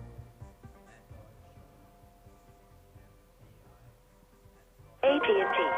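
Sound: telephone keypad dialing tones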